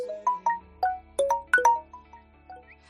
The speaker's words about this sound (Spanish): Este es el sonido que suena en muchísimas casas cuando hay adolescentes y cuando hay niños, ¿eh? Permanentemente el sonidito de un mensaje de WhatsApp y de cosas o notificaciones de las redes sociales.